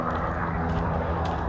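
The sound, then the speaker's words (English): A helicopter drones steadily overhead on a helicopter training day, at 11:48 a.m. on Friday, December 3, 2021: a continuous low rumble with a broad wash of engine and rotor noise that holds at an even loudness throughout, with no one talking. “Be helicopter training day.”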